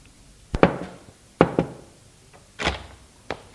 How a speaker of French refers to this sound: On frappe à la porte.